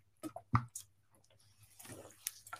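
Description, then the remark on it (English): Someone drinks water: a few quiet wet sips, gulps and mouth clicks in quick succession over a faint low hum, with no talking. “Go have some water.”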